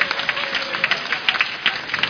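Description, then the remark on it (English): An audience claps together for the Africans present, a dense patter of many hands with a few sharper claps popping out over the steady wash. No voices come through over the applause. “Give the Africans another clap off.”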